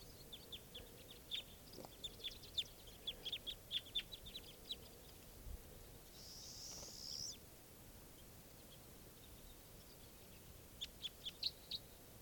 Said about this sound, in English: a very large flock of crossbills just arrived, and they're sitting in the trees here above where I used to have nets set up. And flocks, mostly type 2 birds. These are wild birds.